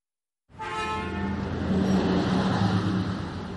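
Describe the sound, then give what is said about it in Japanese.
A loud roaring bus, driven roughly and raising dust, pulls in, its heavy engine rumble and droning tones starting suddenly after a brief silence and holding steady, growing slightly louder as it arrives. “轟音とともに荒い運転のバスが埃を立ててやってきた。”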